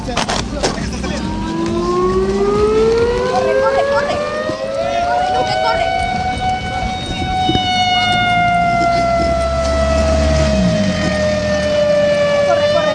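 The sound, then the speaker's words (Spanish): A loud tsunami warning siren wails after an earthquake at night, heard about 100 metres from the sea, its tone climbing slowly over several seconds and then holding a long, steady note, with rumbling background noise and faint voices underneath. “De la sirena.”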